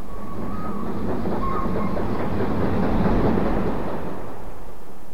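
A train rumbles steadily along railway tracks, a continuous heavy clatter with faint squealing tones from the wheels, loud and without pause.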